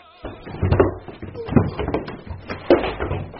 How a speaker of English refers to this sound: Oh, a woman dashed downstairs and knocked me down.